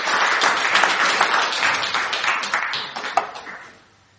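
An audience applauds with dense, crackling clapping at steady volume for about three seconds, then the applause thins out and fades to near silence by the end.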